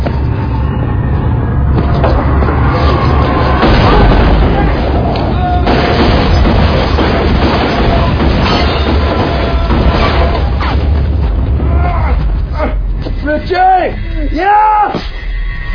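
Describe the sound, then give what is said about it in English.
Loud, chaotic gunfire: repeated sharp shots and heavy booms over a dense roar, with crashes mixed in and shouting voices rising into strained yells near the end, one man yelling that he was shot in the head. “He shot me in the fucking head!”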